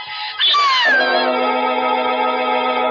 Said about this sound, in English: Butch was on his haunches by the fireplace, nose in the air and howling as if for the dead.